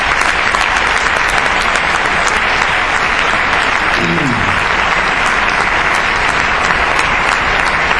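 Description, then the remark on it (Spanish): A crowd applauds steadily for several seconds in tribute to remembered members of the CEC, including producer Pedro Masó, a dense, loud wash of clapping hands with no pauses, holding at an even level throughout. “Desde aquí nuestro cariñoso recuerdo y a todos ellos un fuerte aplauso.”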